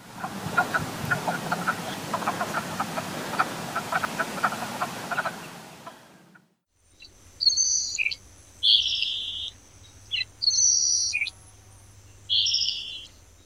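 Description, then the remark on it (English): A dense chorus of wood frogs clucking and croaking for several seconds, then after a short gap, a salt marsh sparrow's thin, high buzzy phrases repeating in separate bursts over a low hum. “You heard wood frogs, a salt marsh sparrow, names of some 2020 Atlantic tropical cyclones, Atlantic white-sided dolphins, a black-necked stilt”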